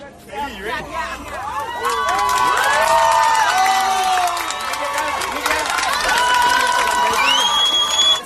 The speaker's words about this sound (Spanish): Gritos de alegría, pitos, porque afortunadamente ese bebé se encuentra en buen estado.